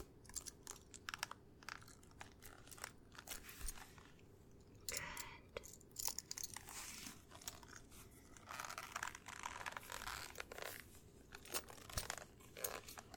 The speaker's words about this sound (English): Moving up higher. Up to your chest and strapping it down. Strapping it in.